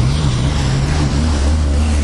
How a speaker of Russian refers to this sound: Сейчас прихожу дорогу. Машины ставят. Одна едет.